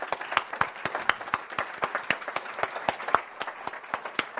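Audience applause: many hands clapping in a steady, dense patter with sharp individual claps standing out, sustained at moderate volume for several seconds with no talking.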